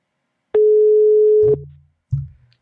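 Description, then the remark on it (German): A single steady, mid-pitched telephone ringing tone from a call placed over a laptop to the Böhme-Zeitung sounds for about a second, followed by two low, muffled thumps. No one speaks. “Es klingelt.”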